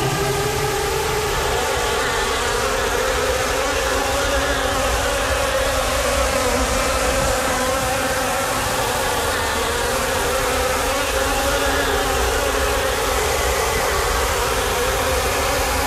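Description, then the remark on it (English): A dense, steady buzzing fills the air, many buzzes overlapping at once with a crackling, electric edge, loud and continuous throughout with no voices. “It was electrostatic, crackling, buzzing sort of noise, but many buzzing all at the same time.”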